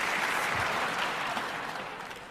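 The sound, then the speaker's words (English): A crowd applauds steadily, a dense wash of many hands clapping together at a constant loud level that eases off slightly toward the end, with no voices heard. “You guys are just applauding for everything, it's great.”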